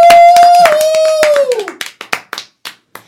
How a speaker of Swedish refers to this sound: Men nu kommer kvällens headliner. Ge en varm applåd för Simon Gärdenfors!